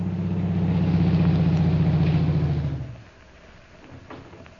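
A car engine idles with a steady, low, humming rumble for nearly three seconds, then cuts off abruptly, leaving quiet with a few faint clicks and rustles.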